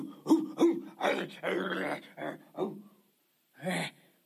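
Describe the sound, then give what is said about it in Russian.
Wolves growl and snarl during an attack in a rapid series of loud bursts, then a short pause before one final snarl. “Волки напали.”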